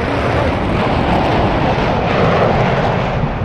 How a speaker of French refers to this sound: Il est 15h40, 11 secondes. André Turcat lâche les freins et Concorde, toutes réchauffes allumées, prend son envol.